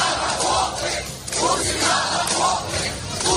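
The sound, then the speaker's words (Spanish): A crowd of protesters in Russia shouts slogans such as "Putin to the trenches" and "No to war" in unison, hours after Vladimir Putin announced a partial mobilization of about 300,000 reservists; a dense, loud roar of many voices rising and falling in rhythmic bursts with a brief dip in the middle. “Es el sonido de manifestantes que están gritando Putin a las trincheras, consignas como esa o este no a la guerra.”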